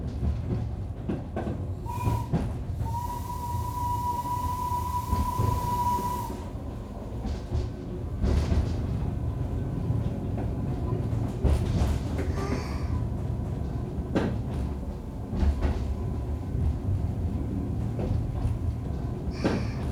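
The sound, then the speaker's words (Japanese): A steam train with passenger cars pulls away smoothly without any jolt, with a steady low rumble of rolling cars, a sustained whistle-like tone near the start, and scattered light clanks and knocks throughout. “2回連続完全無衝動での引き出し、お若い方に見えましたが、なかなかの技量ですわね。”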